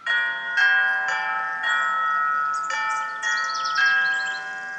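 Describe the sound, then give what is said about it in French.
Church bells of the church of Père Antoine ring out in a steady series of overlapping strikes, each tone humming and lingering into the next, bright and resonant with no voices present. “Les cloches de l'église du Père Antoine retentissent comme le soleil des tropiques.”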